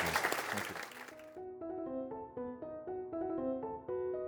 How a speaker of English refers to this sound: Many thanks as well to you, the audience, for your terrific questions. And now I'd like to give a round of applause for Rory. Thank you.